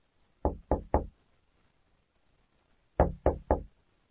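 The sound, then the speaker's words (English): Two sets of three firm knocks on Mr. Barnes's office door, with a pause of about two seconds between the groups; otherwise quiet, no voices. “James knocks on Mr. Barnes's door and enters his office.”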